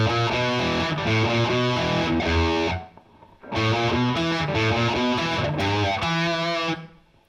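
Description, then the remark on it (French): A distorted electric guitar on the treble pickup plays a slow passage with damped, muted strings, no delay and very little resonance, loud, in two phrases split by a short pause, with no one talking. “Et vous bloquez aussi en aigu. Hein, et pas une toute petite réverb, mais très peu de résonance. Alors je vous le fais une fois au ralenti.”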